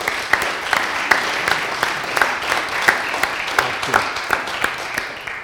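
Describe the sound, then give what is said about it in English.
An audience gives another round of applause, steady throughout, a dense wash of many hands clapping with sharp individual claps popping out, sustained and fairly loud throughout. “and let's just give them another round of applause.”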